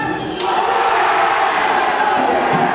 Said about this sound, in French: Ils ont donné de la voix à chaque but du PSG jusqu'au coup de sifflet final.